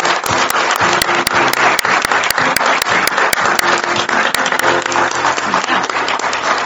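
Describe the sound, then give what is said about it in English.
A crowd applauds veterans, who stand up, steadily and loudly throughout, dense overlapping claps forming a continuous wash of sound with some sharper individual claps standing out in a regular rhythm. “So let's have the veterans stand up just for a second so we can applaud them.”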